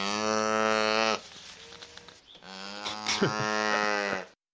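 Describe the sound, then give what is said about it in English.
A calf moos twice, loud, each call a long, low, droning bellow with a brief pause between them; no one speaks. “There's your calf. Is that what that? It's a cow.”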